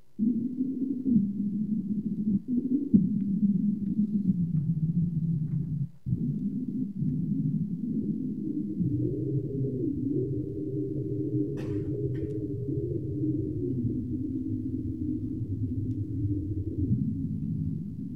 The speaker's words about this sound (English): The original recordings don't seem to survive, but his published frequency charts do, and we can play them just like sound spectrograms. Here's Swing Low, Sweet Chariot, by an African-American quartet of the 1920s.